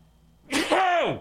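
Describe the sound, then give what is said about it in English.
A single loud sneeze bursts out after a brief quiet moment, a sharp breathy blast trailing into a voiced, falling tail, with no talking around it. “Hang on, I got to sneeze.”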